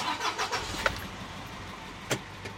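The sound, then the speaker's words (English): A farm truck engine at Meadows Mirth Farm in Stratham, loaded with boxes of red and green lettuce, cranks over in a few quick, uneven bursts and then settles into a steady low rumble, with no one talking. “who's organizing them in the back of his farm's truck. For now, he's driving.”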